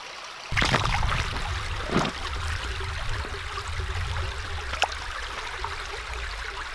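Steady rushing creek water fills the scene with a broad, continuous wash, broken by a few sharp splashes or knocks near the start and again toward the end, as someone walks along the creek picking up rocks.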